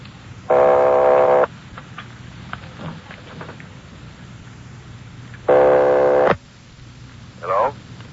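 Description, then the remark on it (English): Two buzzy, even telephone ringing tones on the line of a call to Napa, number Murphy 761, each about a second long and separated by a long pause, heard over a low steady hum with no one speaking. “Keep ringing, 761. They're ringing the number, Sergeant.”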